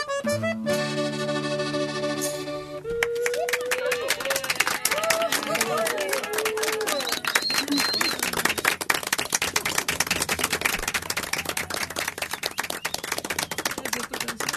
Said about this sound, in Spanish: Gato aplaudido. ¿Te gusta que te aplaudan? Ah, sí, cómo no.